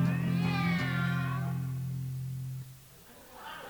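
A single long, drawn-out meow, apparently voiced by a person imitating a cat, loud, holding steady for a couple of seconds before cutting off into quiet background noise.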